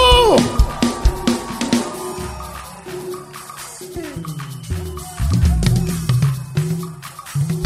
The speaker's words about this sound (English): Hey, put your hands together